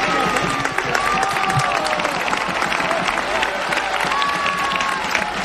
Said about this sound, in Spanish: la ovación, la salida del Toro Acuña en el estadio José Rico Pérez. La gente estaba esperando que el Toro volviera otra vez. Este es el aplauso del público. Se marcha Chule y sale el Toro Acuña. A ver el aplauso del público.